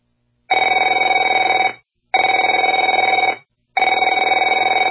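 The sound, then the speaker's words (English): A telephone rings in three long bursts, each lasting about a second with short silent gaps between them. The trilling bell tone is loud and steady, with no voices. “afraid to answer it?”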